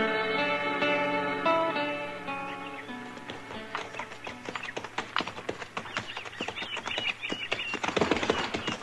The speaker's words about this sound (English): Oh, this dang horse has tromped in every prairie dog hole since we left Cimarron. He'll break his leg yet.